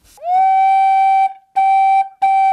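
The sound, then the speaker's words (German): A clear, steady flute-like tone from an organ flue pipe, which works like a recorder with a sharp jet of wind aimed at a labium edge, sounds alone and is held for about a second. It then repeats as two shorter notes at the same pitch, each starting with a soft breathy attack. “Es gibt also einmal Orgelpfeifen, die funktionieren im Prinzip wie eine Blockflöte. Da ist also ein Labium, also eine Schneide, auf die ein scharfer Windstrahl gerichtet ist.”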